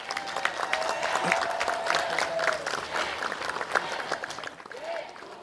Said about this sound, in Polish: i to jest piękne i za to wam dziękujemy, więc brawa dla waszych kapłanów.